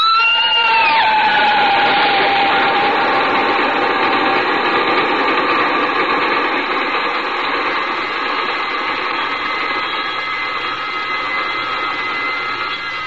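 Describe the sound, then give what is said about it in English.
A loud, steady mechanical roar like a passing train, opening with a brief whistle tone that slides downward in pitch before the rumbling noise carries on unbroken. “Why does the train frighten you so?”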